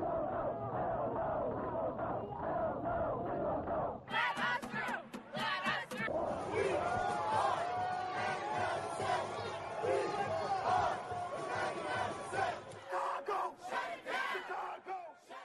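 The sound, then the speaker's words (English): A large protest crowd chants and shouts together in rhythmic, insistent bursts, with many overlapping voices. Loud and continuous throughout, turning sharper and brighter midway as the chanting intensifies. “And as you probably guessed by hearing that audio, we're talking all about the history of protest in Chicago”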